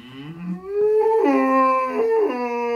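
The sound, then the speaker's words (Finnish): A cow of a newly bred breed moos once in a long, loud, low call that rises in pitch and holds steady for a couple of seconds with a rich, buzzy tone, and nobody talks over it. “eikös tuossa kävele tänne päin lehmä? Voi hyvä isä, kyllä se lehmältä näyttää.”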